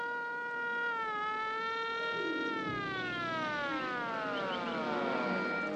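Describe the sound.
An imitation of a police siren: a loud, buzzy wailing tone that holds steady, dips, then glides down and sweeps back up, with no talking over it.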